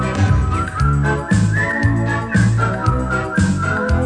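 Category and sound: human body sound, human whistling a melody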